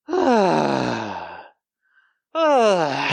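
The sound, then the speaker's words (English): A voice imitates a loud, drawn-out yoga-style exhale, a long sighing breath falling in pitch, then a brief pause before a second forceful sighing exhale starts. “But somebody will cough, or you yoga heads do a lot of this.”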